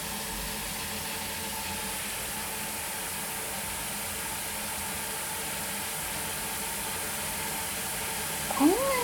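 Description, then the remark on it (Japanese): A steady rush of running shower water fills the scene as a cat named Nyanta is given a bath, and near the very end a single short meow from the cat rises briefly above the spray. “にゃんたって、ほんとにお風呂好きだね。”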